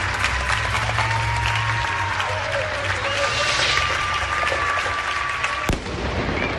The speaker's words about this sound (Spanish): Esto que van a escuchar ha pasado en el tiempo de juego de Paco González a eso de las 10 de la noche. El aplauso de España.